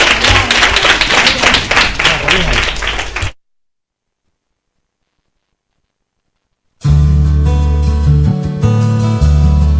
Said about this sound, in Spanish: Pues muchísimas gracias y un aplauso para los chicos de tercero.